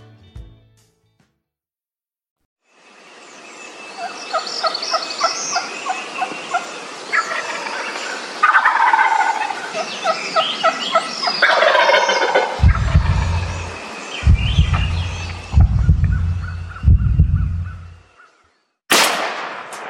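Wild turkey gobbles ring out in rapid, rattling bursts over a dense chorus of birdsong, followed by four deep, booming thumps and a final sharp crack.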